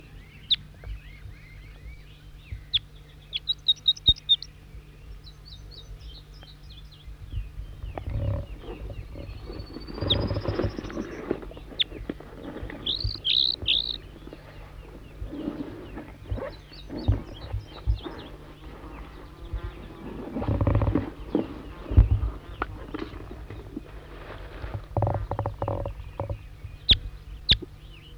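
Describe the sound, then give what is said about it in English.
A wild bird sings, responding with the same song phrases: short, high, chirping bursts repeated in separate phrases, with one rising whistle, over a steady low rumble and intermittent heavy thumping noise. No one speaks. “Four, three, and back, responding with the same song phrases. Wild bird.”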